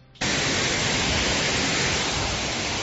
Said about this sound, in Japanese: 実は音を取ってきてもらったと。こちら、はい、第2弾です、 はい、 おしんこしんの音、滝の音をね、 はい、 お送りしたいと思います。